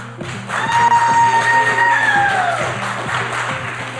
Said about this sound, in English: Shit round of applause. Do better.